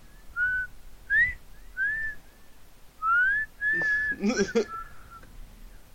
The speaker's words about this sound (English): Yeah, they went to whistle. I guess that signals that that's the end of the discussion.